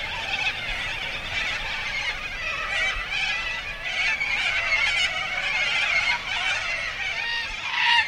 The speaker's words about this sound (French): les cacatoès noirs ont envahi les arbres. Là-bas, le long de la rivière, des cris rauques. La cockatoose. Toute la journée. Toute la nuit.